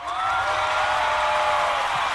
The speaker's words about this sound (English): And they all cheered.